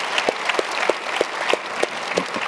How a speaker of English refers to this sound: Would you just encourage them with another round of applause as they got three more weeks and then they launch.